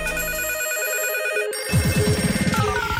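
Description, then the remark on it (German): A telephone rings amid a dense mix of steady electronic tones, with a quick burst of rapid ringing pulses in the second half, loud, and no talking; the phone lines are busy with listeners calling in. “Ihr bringt die Leitungen zum Glühen. Täglich machen mehr von euch bei Franzis 1000 Euro Hits mit. Und unsere Telefonleitung geht in die.”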